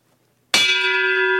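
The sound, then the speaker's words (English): A single loud bell strike rings out after a moment of silence, its bright metallic tone sustaining and humming with steady overtones as it slowly decays. “The bell tolls for them.”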